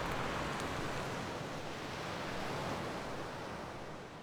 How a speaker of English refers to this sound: I always love reaching this point, and you can just start to hear the sea churn. And the North Sea, the big waves pick up the shingle, and you can see the shingle in the belly of the waves as they rise and fall.